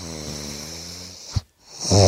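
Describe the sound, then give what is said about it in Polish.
A dog makes a steady, low rasping rumble like snoring, breaks off with a short snort and a moment of silence, then starts again louder. No one speaks. “to rzeczywiście jest piesek, no, zgadza się.”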